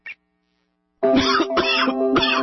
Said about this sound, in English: Why does this cough make me feel like my lungs are going to come out of my chest?